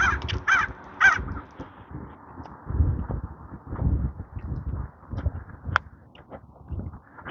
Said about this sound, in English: That's a crow. I'm sorry, Mr. Crow, I did not bring any peanuts for you this morning.